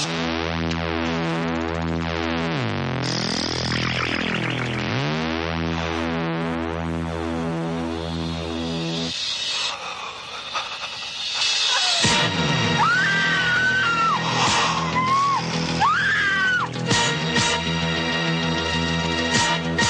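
Eerie early-80s horror score with pulsing low synth drones, rising and falling pitch sweeps and shrill wavering tones. It plays loud and continuous, growing harsher and busier in the second half, with no talking.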